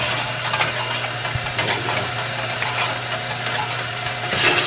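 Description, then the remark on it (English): A candy-making machine cranks along with a steady low hum, overlaid by irregular ratcheting clicks and gear rattles, continuous and fairly loud, with no one speaking, as boiled syrup fills a small hopper and runs through a candy worm that stirs it so it starts crystallizing. “I'm going to fill up this little hopper and it's going to start crystallizing.”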